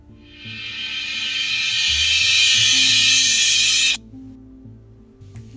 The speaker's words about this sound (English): When the fire alarm went off, some people thought it was an innocent senior prank or a practice fire drill